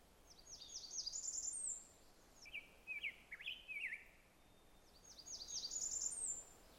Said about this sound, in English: Made a few notes while I was trying to record the Blackburnian warbler, and that was the rose-breasted grosbeak.